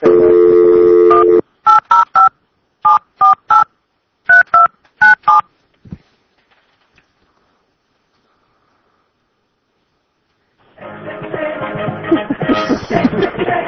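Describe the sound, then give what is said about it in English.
A steady dial tone, then a quick run of touch-tone keypad beeps in short bursts as a radio show calls John Hackleman's phone again. After a few seconds of silence, a rough, noisy line crackles in loudly. “All right, let's try Hackleman one more time. All right. I'm getting a little sad that he didn't answer his phone.”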